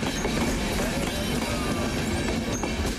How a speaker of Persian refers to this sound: در حالی که بیش از 1200 مهاجر سوار یک قطار آهن است، یک قطار دیگر به سرحد کروشیا با هنگری مواصلت کرده تا این محموله انسانی دست پاچه شده را تخلیه نماید.